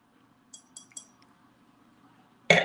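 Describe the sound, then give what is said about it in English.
Glasses clink together three times in quick succession in an anniversary toast, bright and ringing, followed moments later by a louder, harsher clatter of glass at the very end. “Cheers to that. Happy anniversary to that.”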